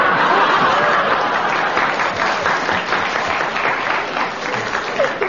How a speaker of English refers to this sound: Do you mean the audience clapped?